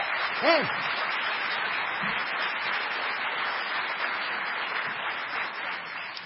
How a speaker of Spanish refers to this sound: Desde Ushuaia, Tierra del Fuego, Antártida e Islas del Atlántico Sur, tenemos un entusiasta y generoso público presente que nos brinda su cálido aplauso. Aplaudan, aplaudan.